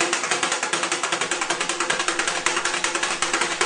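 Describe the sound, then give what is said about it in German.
Laundry rubbed briskly against a washboard, a fast, steady rasping rhythm of many short strokes, fairly loud, with no voices. “Das Ruffelbrett war neben Waschzuber und Wäschemangel das Hauptwerkzeug jeder Waschfrau.”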